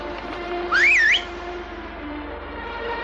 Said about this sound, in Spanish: Cuando los soldados se alejan, el truhán sale de su escondite y silba hacia la playa.